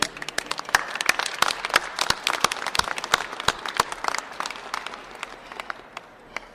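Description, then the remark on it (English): An audience applauds the volunteers during a speech, many hands clapping in a dense, crackling patter with sharper individual claps popping out, holding fairly steady throughout and easing slightly toward the end. “I want to also applaud them because you know that the dollars are going back to the people that need it.”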